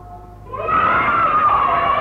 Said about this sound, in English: Ah, you hear the children yell when they hear the dinner bell.